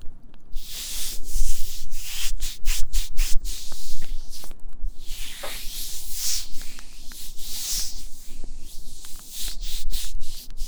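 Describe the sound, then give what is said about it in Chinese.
Continuous soft rubbing and swishing of cloth against skin, with repeated brisk strokes in an uneven rhythm and bright, hissy texture, steady and fairly loud with no voices. “那么现在我要帮你擦拭身体了，可能会有一点点凉，你忍耐一下好吗？”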